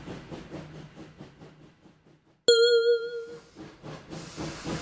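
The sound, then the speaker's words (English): A train chugs in with steady rhythmic puffs that slow and fade, then a single bright bell ding rings out loudly and decays, followed by a rush of hissing steam. “Here's the train, Mickey.”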